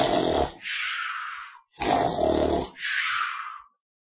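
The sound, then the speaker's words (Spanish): A voice imitates people snoring like pigs, twice: each time a rough, guttural snort-grunt is followed by a long breathy hiss. The sounds are loud and alone. “Y en los mensajes te pones a roncar como cerdos. Y gruñendo y todo, hacen así.”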